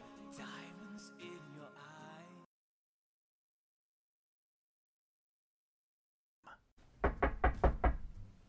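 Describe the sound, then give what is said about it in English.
A burst of music stops abruptly and silence follows, then someone raps loudly and quickly on a door on a February evening, about six firm, evenly spaced knocks. “Who is it? Open the bloody door”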